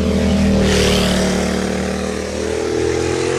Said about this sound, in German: Kommt auch gleich mal eine Vespa.